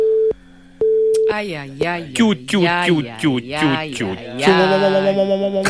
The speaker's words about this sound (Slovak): Obsadzovací tón aj ešte s niečím.